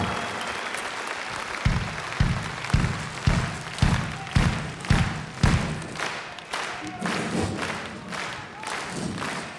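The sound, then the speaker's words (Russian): A large audience applauds loudly and steadily. For a stretch in the middle, heavy rhythmic beats cut through, as if the crowd falls into clapping in unison before it loosens again. “Спасибо вам за ваши красивые цветы, за ваши красивые улыбки, за ваши громкие аплодисменты.”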